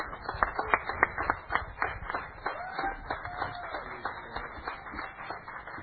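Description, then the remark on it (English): A church audience claps and cheers for the Lord during a sermon, clapping steadily for several seconds with dense overlapping hand claps and a few sustained whoops and shouts of cheering rising above the applause midway through. “Give the Lord a cheer.”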